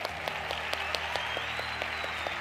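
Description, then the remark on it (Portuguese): A round of applause with no voices, given for someone with a toned, flat stomach: a continuous wash of many hands clapping, with sharper individual claps standing out at a fairly steady, quick rhythm throughout. “Mérito seu, parabéns, palmas para quem tem barriga de tanquinho.”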